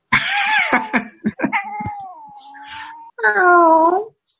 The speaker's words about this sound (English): I can hear your cat. Was she purring or is she meowing? Meow!